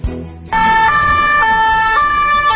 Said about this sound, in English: Police sirens in Paris for a familiar reason, a terror attack. This time, a man randomly stabbing people in a touristy area near the famous opera house.